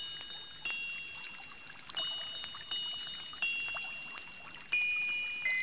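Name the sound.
fountain splashing water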